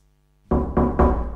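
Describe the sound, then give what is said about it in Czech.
Three heavy, resonant knocks on the door of a ladies' toilet in a bar, loud and in quick succession, starting after a brief quiet moment. “Otevřete ty dveře.”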